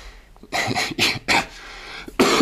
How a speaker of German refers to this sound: Verzeihung, mich hat ein Husten. Man hört es wahrscheinlich auch. Bin etwas angeschlagen.